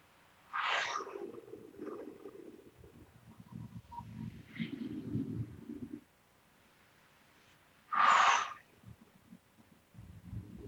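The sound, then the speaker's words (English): Two sharp, breathy bursts of air several seconds apart, each followed by slower, rumbling exhalations, as someone does a deep, forceful breathing exercise. “This and other breathing exercises, this one's a little bit hard to do in bed, but breathing exercises in general are a good thing to do before we try to go to sleep.”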